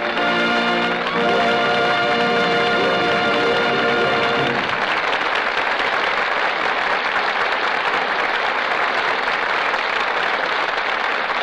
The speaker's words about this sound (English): Sure, we all agree that Myrna Loy and Don Ameche deserve every bit of the applause they're now getting.